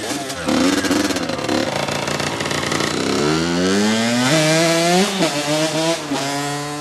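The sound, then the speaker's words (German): A motorcycle engine idles roughly, then revs up through several rising gear changes as the bike pulls away, being stolen on a fake test ride in a suburb of Paris, loud throughout. “Habe ich dir gerade bei einer gefakten Testfahrt ein Motorrad geklaut?”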